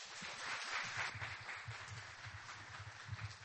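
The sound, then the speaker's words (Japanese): An audience applauds steadily to welcome a pastor who is to give a message, a dense wash of many hands clapping with no voices, the sound holding a fairly even, moderate level throughout. “では、拍手でお迎えください。”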